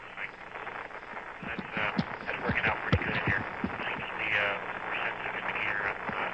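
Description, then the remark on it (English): Dense crackling static fills an Apollo 16 radio transmission from lunar orbit, band-limited and hissy, with the garbled voice of astronaut Ken Mattingly, talking to John Young, breaking through in bursts, steady and moderately loud for the whole stretch. “That's Ken Mattingly, but the static is so bad I couldn't quite understand that, to share it with you, try to clarify it.”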